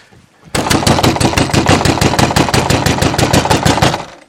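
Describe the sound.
Rapid, loud knocking on a door, a steady run of sharp raps for about four seconds with no voices over it.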